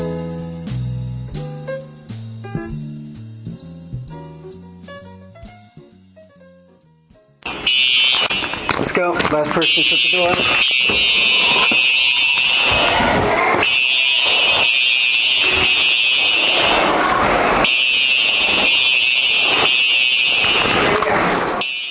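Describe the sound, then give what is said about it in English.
A short melodic piano passage gives way abruptly to a loud, shrill fire alarm during a fire drill at Wells Elementary School, a sustained high tone broken by a few brief gaps, with a voice speaking faintly beneath. “and this is a continuation about the Wells Elementary School fire drills from Student News Podcast 07.”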